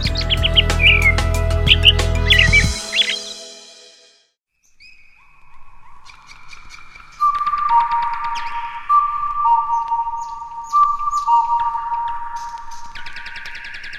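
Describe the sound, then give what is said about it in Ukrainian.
A nightingale sings in a cherry orchard, first over a brief burst of loud low rumble, then alone after a short pause, with long pure whistled notes and quick chirps repeating steadily. “Ой, у вишневому саду там соловейко щебетав.”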